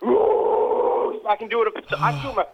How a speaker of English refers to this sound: I learned to scream high pitch in mid, and then all of a sudden I couldn't growl like 3 years ago. Now I can just go.